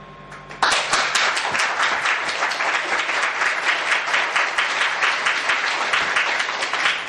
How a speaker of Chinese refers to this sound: 你要鼓掌呢，你就鼓一下呢，你不能看大家不跟上了，你就停下来。鼓掌的话呢，就是一鼓，不管你们有没有跟，我一直鼓，那么人家就上来，听得懂吗？